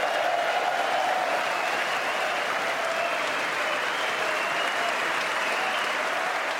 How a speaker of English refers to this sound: The applause went on, and those three World War II veterans beamed with pride.